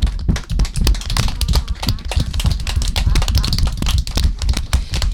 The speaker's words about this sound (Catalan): Bravo, un aplaudiment.